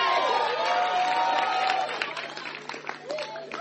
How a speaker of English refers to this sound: You better clap so I can give you. Oh, yes. I like the way you are clapping.